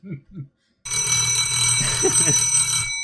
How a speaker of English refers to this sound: Just when you thought that he got rid of the damn bell, he brings it back. That's right. The bell will never go away. It will never die.